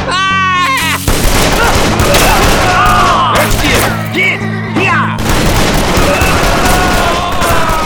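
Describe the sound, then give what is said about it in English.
A loud, dense volley of gunfire from ranch defenders in an ambush crackles and booms almost without pause for several seconds, mixed with wailing cries and shouts, opening with a high, bleating yell. “Many of them didn't make it, but the raking gunfire of the ranch defenders was merciless.”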